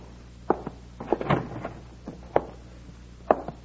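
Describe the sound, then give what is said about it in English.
The door to one of the front rooms of a hotel is opened: a series of short latch clicks and dull wooden knocks, spaced irregularly over a few seconds, with a low steady hum underneath and no voices. “Here's the door to one of the front rooms.”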